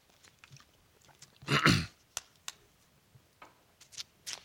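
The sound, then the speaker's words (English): A single slurping sip of a drink, a short breathy rush of sound, followed by a few faint mouth clicks and quiet swallowing noises, with no talking. “he said this in 10:1, as I take a sip”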